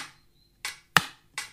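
Hollow wooden knocks tapped on a ukulele body in an uneven rhythm: four short, dry hits with quick decays, the third one loudest, and no voices.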